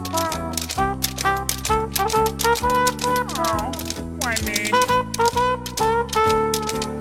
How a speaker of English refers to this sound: Honey, those sheep are tap dancing.